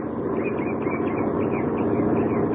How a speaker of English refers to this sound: As a truck from one of the neighboring farms approaches, he holds his ancient rifle at his side and waves the truck to a stop.